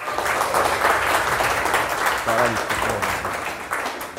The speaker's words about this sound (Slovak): Super, ještě raz velký potlesk.